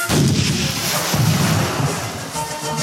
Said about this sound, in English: The Nautilus shook from the explosions of the cannonballs in the water, but it went forward, ready to attack the enemy ship.